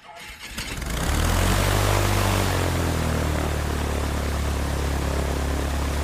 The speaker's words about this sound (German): Ich fliege in einer kleinen Propellermaschine von Tobago nach Trinidad. Ein Flug von etwa 20 Minuten.